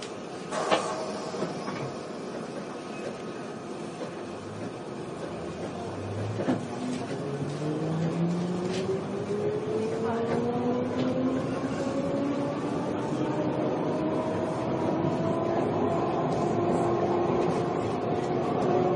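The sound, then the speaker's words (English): A London Underground Piccadilly line train, a service to Cockfosters, pulls away with a rising electric motor whine that climbs steadily in pitch, over a constant rumbling roar of the carriage, after a few clunks at the start. “This is a Piccadilly line service to Cockfosters.”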